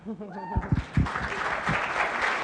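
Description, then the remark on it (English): Audience applause swells up after a brief vocal cry, becoming a dense, steady wash of many hands clapping that holds at a fairly loud level to the end. “Clap and stand, absolutely.”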